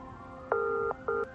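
cell phone dialing tones

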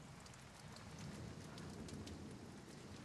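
rain falling

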